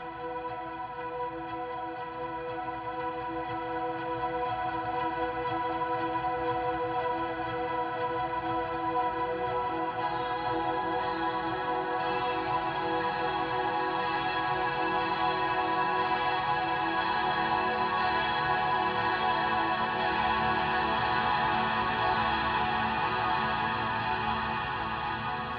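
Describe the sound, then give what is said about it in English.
Guitar played through a huge stereo delay at the start of a song, its repeats looping on themselves and stacking into a dense, shimmering wash of sustained tones that grows fuller and brighter over about 25 seconds, with no voices. “It's a stereo delay looping guitar.”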